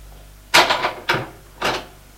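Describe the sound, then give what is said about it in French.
A two-door wardrobe facing a bed being opened hesitantly by a woman: three fairly loud wooden clunks and rattles in quick succession, each dying away briefly, with no voices. “La mère, hésitante, ouvre la moire à deux portes qui se trouvent en face du lit.”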